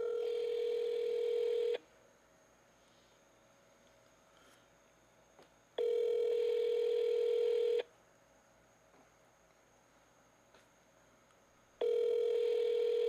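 An outgoing phone call rings on the line: three steady ringback tones, each about two seconds long, separated by longer pauses of quiet hiss, with no one answering or talking.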